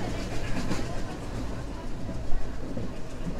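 A steam train rolls past with a steady, dense rumble and rhythmic chugging over a deep low drone, holding an even loudness with a brief swell near the end.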